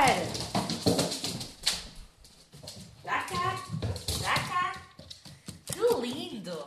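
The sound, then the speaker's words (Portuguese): A dog barks and whimpers in a series of short, high-pitched yelps and whines, fairly loud, with a person's voice speaking over parts of it. “porque ele, à maneira dele, expressa-se.”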